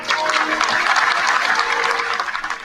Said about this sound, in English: Yeah, you hear that, though, of course, just again, casually, nice little claps. And probably a lot of people not even thinking about it. But of course, you hear that and you go, oh, this is recognition of what they consider a state of Palestine.